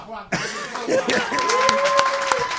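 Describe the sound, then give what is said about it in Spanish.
An audience at a comedy monologue show bursts into applause as the performer comes back out on stage, a dense wash of clapping that starts suddenly and holds steady, with scattered sharper claps and a voice or cheer rising through it. “Encantoume, encantoume de vuelvo a salir y me volvéis a aplaudir.”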